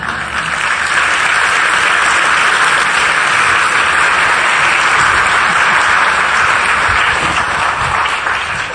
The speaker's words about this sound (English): And as she comes up, you can applaud for her, okay?